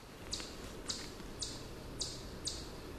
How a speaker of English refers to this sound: one of the ones you hear so often is the chuck, chuck, chuck, chuck, chuck, and it sounds an awful lot like a bird